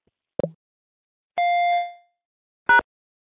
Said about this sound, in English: You will be required to confirm your full name after the beep.